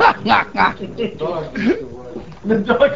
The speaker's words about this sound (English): The dog. Yes. Dog. Yeah.